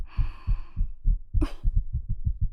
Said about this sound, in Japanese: 肩、こうやってトントンってしていくの。